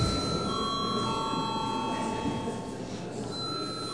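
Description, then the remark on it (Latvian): A parliament chamber bell rings steadily and continuously for several seconds before a vote on a bill, a sustained, bright electric ringing that fills the room, with a faint murmur of voices and room noise underneath. “Lūdzu vēlreiz zvanu.”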